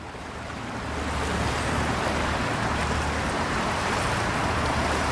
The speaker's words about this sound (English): Weekday listener Noel recorded the sound of the swollen river in Paris as he passed under a bridge just beside it.